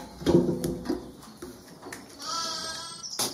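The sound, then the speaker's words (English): An animal bleats in a wavering, goat-like cry, followed by a higher, thinner bleat with a buzzy, layered tone. A few sharp clicks punctuate the otherwise quiet stretches. “You're bleating and tweeting at your way to number seven.”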